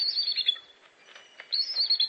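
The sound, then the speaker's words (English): A bald eagle's high, squeaky chittering call in two bursts separated by a brief pause, thin and creaking like a rusty door, with no talking. “Yes, that squeaky door sound comes from the official bird of the United States of America.”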